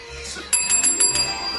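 A small bell rings in a quick, bright series of dings starting midway, sharp, repeating rapidly like a bicycle or desk bell being struck over and over.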